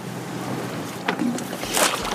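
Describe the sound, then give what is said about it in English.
A LaBelle underwater speaker is dropped off the side of a boat into the water in Holcomb Bay, Alaska, with a brief knock then a loud splash over steady outdoor water and engine ambience. “Those are recording, and he's about to drop a LaBelle underwater speaker off the side of the boat in Holcomb Bay.”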